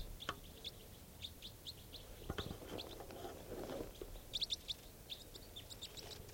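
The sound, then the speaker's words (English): A small flock of type 4 birds that has just arrived calls from high in the trees, giving many short, high chirps in scattered overlapping bursts, with a brief low rustling clatter partway through. “small flock of type 4s has just arrived on the scene. And they're all high on the trees.”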